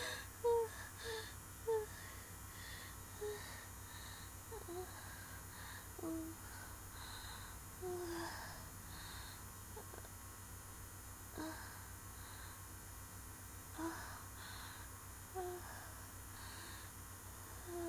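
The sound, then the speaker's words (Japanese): Soft, faint breathing comes in irregular airy puffs with a few quiet gasps, set against a low, steady background hum and no clear speech. “吐息がエロい。”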